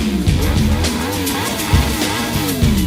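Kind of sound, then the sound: vehicle, car engine revving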